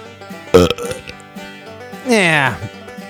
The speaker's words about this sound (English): Yeah, I can't really muster up another good belch right now.